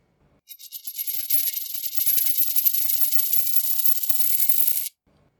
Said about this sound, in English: All right, I will be tossing the coin. Heads argues for and tails argues against. Here we go.